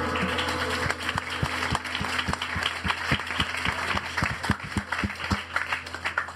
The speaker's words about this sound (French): Alors on peut les applaudir, merci.